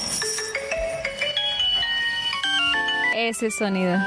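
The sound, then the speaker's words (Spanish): Retro Nintendo duck-shooting game on an early Nintendo console, played with a toy pistol aimed at the screen: a bright, beeping chiptune melody stepping through short electronic notes, then a quick burst of warbling, fluttering bleeps near the end, loud and steady throughout. “¿qué te parece si jugamos un rato con una pistola de juguete apuntando a la pantalla para matar patos? Las primeras consolas de juegos de Nintendo.”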